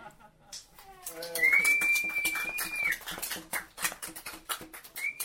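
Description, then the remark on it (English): Seagulls off the bow of a ferry bound for Belfast call in a quick series of descending, harmonic cries, followed by a long, thin, steady high-pitched note and another brief one at the end, over a constant noisy, rushing background. “I muse as I watch the seagulls off the bow.”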